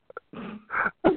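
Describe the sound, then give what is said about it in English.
A couple of quick faint clicks, then three raspy, wheezing breaths from a man in close succession, blamed on warm weather in Virginia, each a harsh, strained rush of air, the last one loudest and most abrupt. “No, he probably needs a breathing treatment.”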